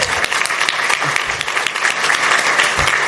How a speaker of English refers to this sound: Commissioner and Mayor, that's definitely worthy of a round of applause, because I know how big of a step that is, because, like you said, housing requires all of us in the room to make it happen.